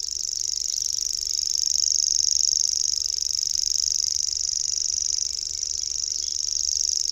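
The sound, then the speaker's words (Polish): A common grasshopper warbler reels without a break, a high, dry, insect-like trill that holds steady for the whole stretch, its loudness gently swelling and easing as the singing bird turns its head. No one speaks. “Głos świerszczaka czasem mylony jest z głosami owadów.”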